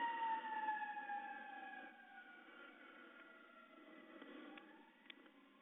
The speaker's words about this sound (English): Of course, what would Open VoIP be without the sound of a siren going by Jazz Mattis's apartment?